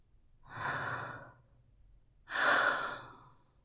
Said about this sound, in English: And when her wrist brushes against your cock, through your underwear, her lips part, she lets out a small gasp.